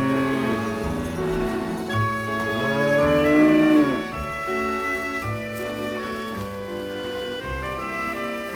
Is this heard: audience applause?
no